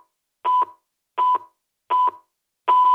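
Four evenly spaced, steady electronic pips of the radio time signal marking 18:00 (6 pm) on a Friday evening, each short and identical in pitch, about a second apart, with the last one louder and held longer. No voices.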